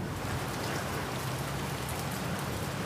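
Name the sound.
rain falling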